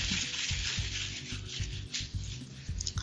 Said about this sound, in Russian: Вот я сейчас скатаю просто шарик. У меня есть салфетка.